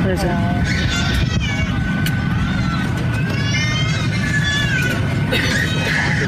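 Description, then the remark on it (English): A newborn baby cries at birth aboard an Orlando-bound plane, in thin, wavering wails that rise and fall in pitch, repeating over a loud, steady engine-like drone that fills the background. “She hears it start crying as it's born.”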